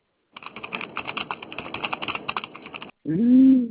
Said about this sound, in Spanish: Qué velocidad los teclados.